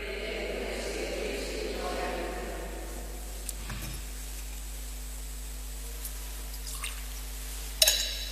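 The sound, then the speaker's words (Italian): A small amount of water trickles and drips into wine in a chalice during a spoken Italian liturgy, faint, with a few soft clinks and taps; a low murmur of voice is heard at the start. “L'acqua unita al vino sia segno della nostra unione con la vita divina che ha voluto assumere la nostra natura umana.”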